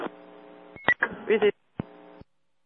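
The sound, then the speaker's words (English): Fire dispatch paging alert tones crackle over a radio channel for a reported barn fire at 222 Ackertown Road, Shamrock Farms, a short burst of buzzy, steady pitches with brief breaks between them, loud, and no one speaking. “Put the tones in again, please.”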